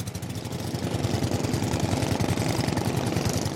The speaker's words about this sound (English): As we get closer, we can now see at least 20 smaller boats. They're anchored to the reef and the men on board are revving their engines hard, filling the air with black smoke and churning the reef below.